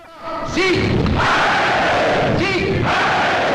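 A large crowd at a rally cheers and applauds loudly and continuously on cue to the words of the leaders, with swelling shouts rising over a steady roar of clapping, peaking in two bursts of excited yelling.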